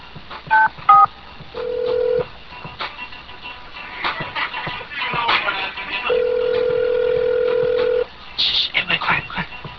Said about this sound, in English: so why don't we make a phone call? Let's see how this turns out.